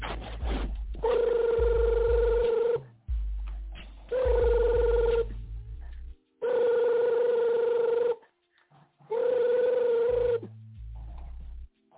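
A phone rings four times in a steady pattern of long tonal bursts separated by short pauses, loud, with no one speaking.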